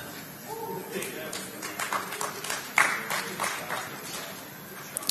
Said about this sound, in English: You don't clap very loud.